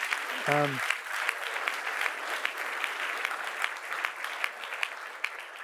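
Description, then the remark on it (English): Sustained applause from an audience for participants getting through a lightning round, a dense patter of many hands clapping steadily for several seconds, with a brief voiced sound near the start. “Let's give a round of applause for them getting through the lightning round.”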